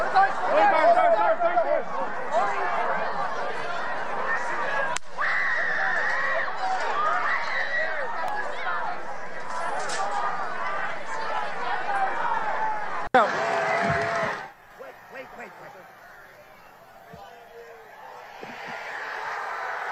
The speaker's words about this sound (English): The four pumps of his fist, the fight, fight, fight, the cheers from the crowd, the accompanying images that have been burned into all of our minds.